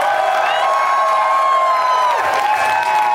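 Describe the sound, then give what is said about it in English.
A large live audience in Boston applauds and cheers continuously, a dense wash of clapping topped by whoops and shouting voices, loud throughout. “And thank you to everyone, all my Boston friends, for coming out today. You're an amazing crowd.”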